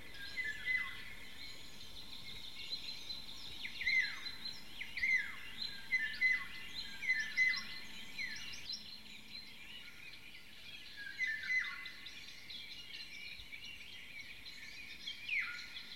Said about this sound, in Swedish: Det var sommargyllingen som knackade på. Det är en tillfällig sommargäst här i södra Sverige. Och den är inte så lätt att få syn på i lövverket. Den gula och svarta och mycket vackra fågeln.